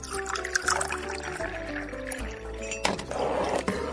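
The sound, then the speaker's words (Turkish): Six glasses of water pour steadily into a small pot for boiling rice, a continuous splashing rush with a rising, gurgling tone as it fills, loud and unbroken for the whole stretch with no talking. “Tencereye 6 bardak su koyalım ve pirinçleri de koyup haşlayalım.”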